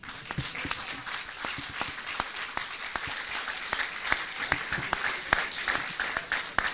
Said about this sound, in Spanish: ¿Pueden dar un aplauso?